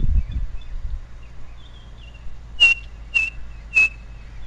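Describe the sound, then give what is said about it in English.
A tiny black-and-white bird with a chestnut band across its white breast gives its characteristic whistled call, likened to "three blind mice": three short, high notes, evenly spaced about half a second apart, standing out clearly over a faint low background rumble. “A little black and white bird with a chestnut band across its white breast, and it's got quite a characteristic call”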